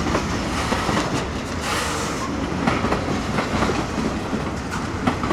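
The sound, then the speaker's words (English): A long freight train of closed-up boxcars, with a flatcar, rolls past heading north toward Nashville, a continuous loud rumble with rhythmic clickety-clack of wheels over rail joints and occasional metallic squeaks, no voices. “Boy, this is long. All that box cars are closed up.”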